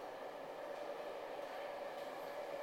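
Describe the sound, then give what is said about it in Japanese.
An express train bound for Chūō-Rinkan pulls into track 3 at a station platform, a loud, steady rumble with a faint sustained whine running through it, continuous throughout with no voices. “まもなく3番線に急行中央林間行きが参ります。”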